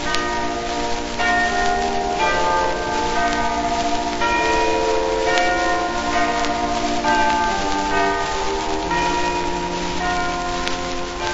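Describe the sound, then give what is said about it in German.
Church bells peal continuously to announce the first hour of the Easter festival, several overlapping tones ringing out in a dense, layered wash with bright high partials and a steady droning hum underneath, no voices present. “Verkündige ihr dumpfen Glockenton des Osterfestes erste Feierstunde.”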